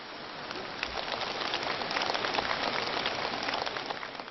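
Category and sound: crowd, enthusiastic applause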